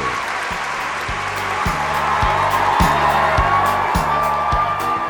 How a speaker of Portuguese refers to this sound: Palmas! Palmas para ele! Palmas para o professor Roquete Pinto!